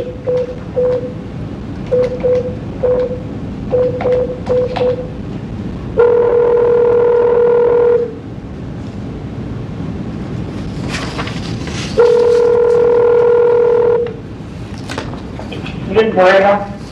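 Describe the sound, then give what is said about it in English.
Telephone line tones as another person is added to a phone call: a run of short, evenly spaced beeps, then two longer steady tones separated by a pause, all over a hissy, noisy phone-line background. “We're going to be putting someone else on the phone, so please hold on.”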